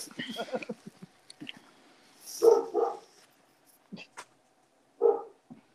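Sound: dog barking and whimpering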